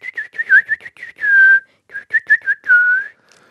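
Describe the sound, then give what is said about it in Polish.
A person whistles a quick, warbling birdsong-like tune: short chirpy trills followed by two long sliding notes, clear with no talking. “Śpiew jakiego ptaka przypomina gwizdanie”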